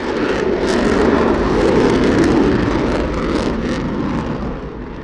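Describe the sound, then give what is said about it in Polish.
A loud, steady roar of four F-16 fighter jets from the Krzesiny air base in Poland, flown by pilots heading to Lithuania, a broad rushing engine noise that holds for several seconds before easing off slightly at the end, with no voices. “Piloci z krzesińskiej bazy zabierają na Litwę 4 samoloty F-16.”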